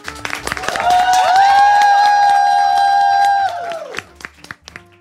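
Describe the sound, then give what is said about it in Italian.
A crowd of first-year directing, writing and show-organisation students of the Civica Scuola Paolo Grassi in Milan bursts into loud applause for themselves, with long, high-pitched cheers and whoops ringing over the clapping for several seconds before it thins out to scattered claps. “E dunque, visto che sono qui in tanti, direi che potrebbero farsi un applauso da soli.”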